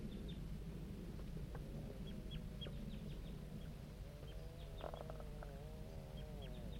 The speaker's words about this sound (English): Start recording the juvenile birds responding to bird 5-3.